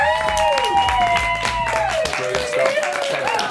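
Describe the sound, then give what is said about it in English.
An audience at a roast battle claps steadily for a few seconds, a dense patter of hands mixed with cheering voices and a sustained tonal sound underneath, fairly loud throughout. “Round of applause, Kirsty Carr.”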